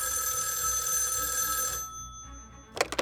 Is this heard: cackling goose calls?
no